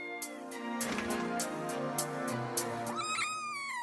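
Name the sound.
kitten meowing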